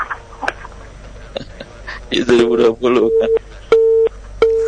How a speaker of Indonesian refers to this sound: Baik, maaf terputus sambungan teleponnya. Bapak yang ada di Palu, silakan mungkin Bapak bisa menghubungi kembali ya Pak via telepon. Terputus sambungan teleponnya, mohon maaf.